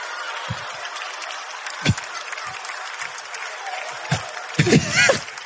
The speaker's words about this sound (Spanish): Una vez que se tome la foto, por favor, todos me aplauden, ¿ok?